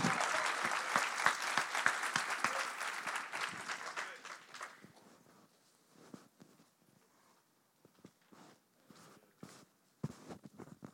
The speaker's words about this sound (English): Now that I'm up here, let's give the one that we're really here for, Jesus, let's give him a hand clap this morning.